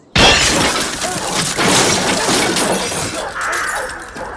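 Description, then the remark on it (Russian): A stout woman shifts her seat and crashes down with her whole weight onto a man in a cassock, a sudden, loud impact followed by several seconds of clattering, breaking debris that slowly settles; no voices. “Дородная Марфа Петровна, видимо, для того, чтобы лучше слышать, чуть сместила угол посадки и всей массой грохнулась вниз.”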